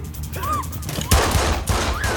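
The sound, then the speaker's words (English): Three quick gunshots crack out in close succession in a film scene, as a gunman shoots one of the girls and is shot down by Brian, the first loudest, over a busy rumbling background with faint high, sliding whistle-like tones. “He shoots one of the girls before being dropped by Brian.”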